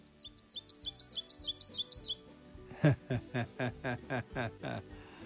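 An ovenbird sings a quick, clear run of about ten repeated bright two-note phrases that build in loudness, followed by a man's voice chanting a similar rhythmic pattern, imitating the song.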